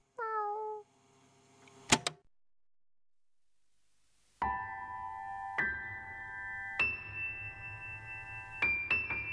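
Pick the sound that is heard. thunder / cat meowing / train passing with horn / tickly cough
cat meowing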